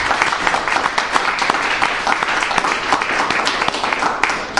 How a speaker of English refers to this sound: I just wanted to say thank you so much for to our presenters this evening. And we can give them all a round of applause.